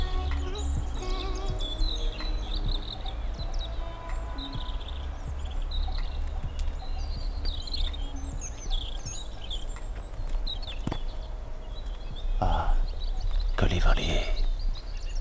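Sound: birds singing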